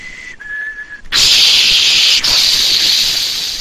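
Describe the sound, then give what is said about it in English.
Someone vocally imitates a dial-up modem handshake: a steady high whistled tone with a brief break, then a loud, sustained harsh hiss that continues to the end, with one short gap. “Who has heard a modem handshake?”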